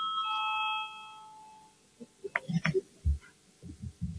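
A voting bell in the Latvian parliament (Saeima) sounds as a bright electronic chime to call a vote, ringing steadily for about a second before fading out, followed by scattered low thumps and faint room noise.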